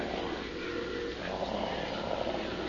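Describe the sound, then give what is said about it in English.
A tiger purrs in a low, steady, rumbling drone that holds at an even loudness for a few seconds, with no voices over it. “It sounds like it's purring. Yes, purring. The purring of a well-fed jungle cat.”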